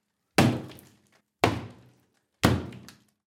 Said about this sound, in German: Der andere klopft mit einem Hammer ein paar Mal kräftig dagegen.